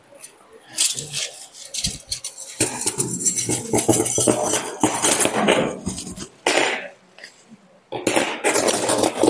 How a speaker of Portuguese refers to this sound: O que que a gente tem aqui? Talheres. Talheres. Boa! Talheres.